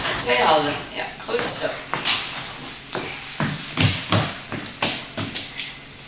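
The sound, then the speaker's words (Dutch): Someone rummages through a drawer looking for a spoon: a busy, irregular run of clinks, taps and knocks as utensils shift around, with a voice speaking briefly at the start. “maar in de la of er een lepel ligt.”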